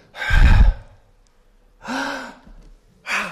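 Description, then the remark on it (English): A deep, deliberate exhalation demonstrating breathing out, followed by two more audible breaths, each a soft airy rush with pauses between and no talking. “Breathing out, that's confessing our sins.”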